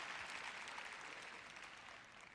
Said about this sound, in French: Vous voyez quand vous applaudissez ces applaudissements mous. Je sais que vous avez du mal à applaudir fort parce que vous appartenez peut-être à cette catégorie.